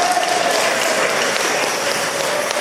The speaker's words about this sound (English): Come on, do it. Round of applause to encourage them up.